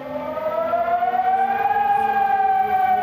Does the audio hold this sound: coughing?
no